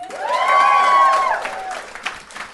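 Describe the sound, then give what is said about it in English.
Audience applause, requested by the performer as a round of applause for feeling good to be there: a dense, steady patter of clapping, joined by a loud sustained whoop or whistle that holds a high pitch for about a second before the clapping thins out. “Give me a round of applause if you feel good to be here.”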